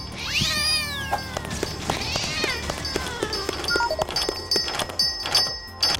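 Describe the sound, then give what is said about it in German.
A cat lets out two drawn-out, wavering meows about two seconds apart, fairly loud, over a steady bed of clicks and light tapping noises. “Und für dich hole ich eine Katze.”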